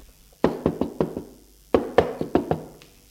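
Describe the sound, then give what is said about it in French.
A grandfather knocks on a door in two quick bursts, about five sharp raps each, separated by a short pause. The knocks are fairly loud, with no voices. “L'on frappe à la porte.”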